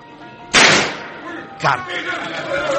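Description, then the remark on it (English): A single loud, sharp gunshot bursts out and rings off in a short decaying tail, followed about a second later by a softer thud, with low murmuring underneath. “Now, this one shot must do it.”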